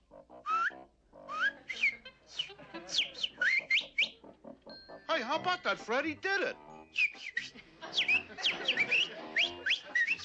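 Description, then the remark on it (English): A hypnotized man makes rapid, squeaky bird-like chirps and whistles in quick bursts, fairly loud, with another person briefly talking between the imitations. “And now I will make the subject think he's a bird.”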